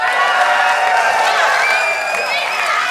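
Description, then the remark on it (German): A live audience cheers and claps steadily for several seconds, a dense wash of applause with shouts and whoops rising above it, loud and sustained throughout. “Wir können es ja einmal probieren für den Sound. Ja, bitte rastet einmal aus.”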